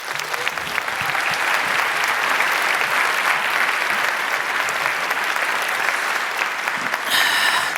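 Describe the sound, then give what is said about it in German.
A crowd applauds steadily for several seconds to welcome a speaker, a dense, even wash of many hands clapping at full volume with no speech over it. “Einen wunderbaren Applaus bitte”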